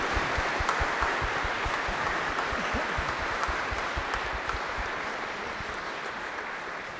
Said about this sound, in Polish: Dziękuję. Wielkie, wielkie brawa.